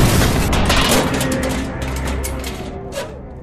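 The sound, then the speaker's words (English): A spaceship's crash landing on Planet Zot: a loud, continuous roar of rumbling, grinding noise with crackling bursts and a heavy low-end boom, easing off slightly toward the end. “Yeah, what kind of landing was that?”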